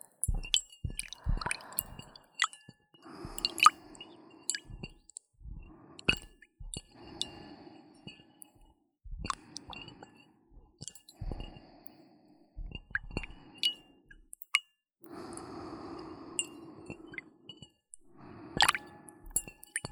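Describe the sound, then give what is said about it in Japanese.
Water being gently stirred and sloshed, with irregular soft drips, plops and small splashes spread over the whole stretch. The sounds are quiet and unhurried, with no talking. “水の音って案外気持ちいいですよね。”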